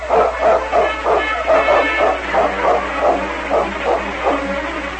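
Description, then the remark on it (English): King, a malamute, barks over and over in a quick, steady rhythm as Sergeant Preston drives his dog team along a snow trail, about a dozen loud barks against a low constant hum, with no talking. “Nevertheless, Preston pushed on, mile after mile, driving his dog team onward at a fast and steady pace.”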